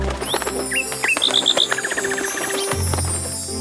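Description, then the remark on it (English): Bright bird chirps and rising whistles tumble out in quick succession, including a rapid trilling run, all clear over a steady soft musical background. “Look at the birds.”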